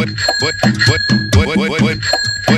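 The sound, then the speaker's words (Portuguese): A small handbell on a popcorn cart rings steadily and brightly throughout, struck to call customers, its clear metallic tone sustained over a voice that sings or talks in the foreground. “Foi empurrando o meu carrinho de pipoca e batendo o sininho pra chamar.”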